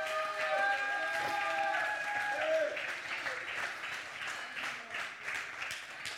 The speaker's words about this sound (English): Go, Jesus, go. We're going to cheer you on.